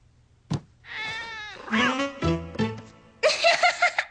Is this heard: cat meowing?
yes